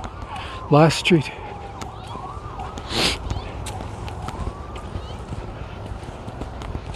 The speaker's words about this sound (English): A couple different sirens going off in the distance here. I wonder if it's a fire or ambulance and police. Hard to tell them.